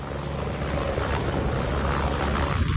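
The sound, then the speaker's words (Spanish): A firefighting aircraft that carries up to 10 firefighters, scooping up water with its bucket to drop on a fire: a loud, steady roar of engine and rotor with a low throbbing rumble and broad rushing hiss, continuous throughout with no voices. “Así suena cómo recoge el agua para poder acudir al incendio y dejarla caer sobre el fuego.”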